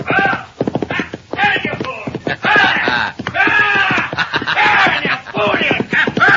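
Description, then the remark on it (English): Rapid hoofbeats of a ridden horse clatter in a quick, uneven rhythm, mixed with high, wavering whinny-like cries and shouted voices over a busy, loud scene. “Now, Harney, get off that horse!”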